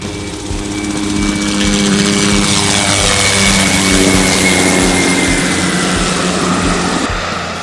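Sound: aircraft flying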